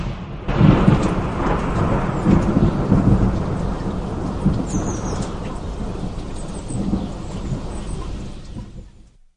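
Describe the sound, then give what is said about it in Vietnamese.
A thunderstorm rumbles with a long, deep roll of thunder over steady heavy rain, the low booming swelling early then slowly fading away. “Thỉnh thoảng một ánh chớp chiếu sáng chân trời, có thể tưởng chừng như cái chân trời ấy vội vã chạy trốn, cho xa tiếng ồn ào gầm rít của cơn giông.”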